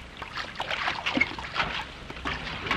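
Water sloshes and laps continuously against a sinking rocket plane floating on the water, a busy, splashing churn with irregular surges, moderately loud, with no voices.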